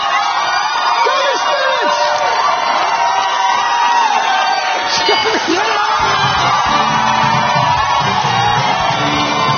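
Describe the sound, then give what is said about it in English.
The audience of the Canadian version of a game show cheers and whoops excitedly after a contestant answers the final question, a loud, dense wall of crowd noise with shouts and yells rising through it, continuous for the whole stretch. “Man, they get excited in the Canadian version of this.”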